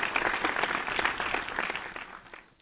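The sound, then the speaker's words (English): A short burst of applause, many hands clapping in a dense, steady patter that fades away toward the end. Nobody speaks. “I don't know where to begin trying to come behind all of that, but I'm going to give you your applause and your praise now because you broke it down.”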